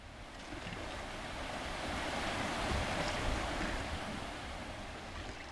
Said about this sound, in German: Der Fluss ist schon ganz schön wild.